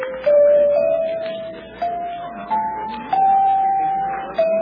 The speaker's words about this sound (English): I wonder how much these chimes are.